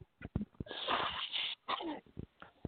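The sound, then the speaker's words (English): A person blows their nose hard into a tissue, a long wet honking gust followed by a shorter second blow, with a few soft bumps and rustles around them. “Blow your nose.”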